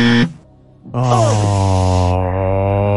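quiz game buzzer

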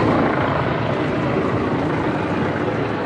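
helicopters circling overhead

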